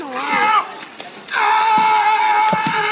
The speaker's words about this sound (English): That sea lion yells like Tom Hanks. So first, here is the sea lion. Okay. He's like slapping the water.